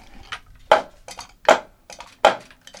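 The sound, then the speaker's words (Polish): Sharp wooden clacks from the hinged jaw of a small turoń made of linden wood, snapping shut. Three loud main strikes come about three-quarters of a second apart, with softer knocks between, hollow and bright, with no voices. “Musi kłapać i przeważnie jest dobrze, ale z drzewa, ja robię z drzewa lipowego.”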